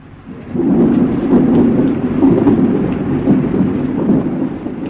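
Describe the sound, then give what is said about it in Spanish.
Steady rain pours down with a low, continuous rumble of thunder rolling underneath, building after a quieter first half-second and holding loud throughout, with no voices. “ésta se echó a llorar y enseguida se puso a llover.”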